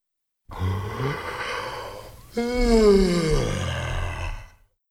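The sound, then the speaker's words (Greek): A single long yawn: a breathy drawn-in stretch that turns into a loud voiced, groaning exhale sliding downward in pitch before trailing off, with no talking. “Χασμουριτό.”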